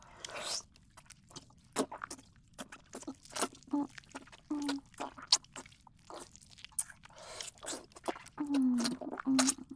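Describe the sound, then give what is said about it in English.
Wet mouth noises of someone nuzzling, slurping and suckling during oral sex: quick smacks, slurps and sucking clicks in an uneven, continuous patter, with a few brief voiced hums and no words. “As I nuzzle and slurp and suckle on the head of your cock.”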